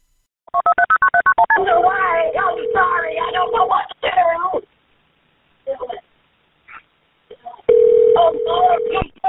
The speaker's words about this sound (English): Very shortly after that call, the first caller dials 911 again. She's seeing more of what's happening.